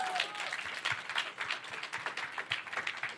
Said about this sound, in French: Applaudissements pour Meredith Grey.